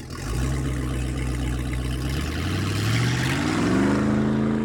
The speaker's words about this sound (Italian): Molto seccato, accesi il motore e diressi la barca verso il molo di Pecorini.